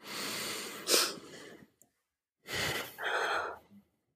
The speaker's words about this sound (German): Also ich habe ja schon gesagt, dass mit dem wirklich einmal durchatmen, das klingt jetzt ganz trivial, aber in so einer Situation meistens nicht mehr, wenn man dann schon mittendrin steckt, ne, und sich angegriffen fühlt. Ich mach's einmal vor.